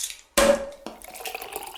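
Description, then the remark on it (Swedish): Real crystal champagne glasses clink together in a toast, one bright strike with a short ringing tone, followed by a softer touch and faint clatter. No one speaks. “Vi tog de äkta kristallglasen.”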